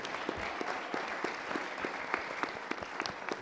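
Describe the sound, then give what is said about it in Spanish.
An audience applauds as legislator Marta Tagle is introduced, a dense wash of many hands clapping with sharp individual claps popping out of the texture, holding an even, moderate loudness throughout. “Luego a mi centro-izquierda, la gran legisladora Marta Tagle. Un aplauso, por favor.”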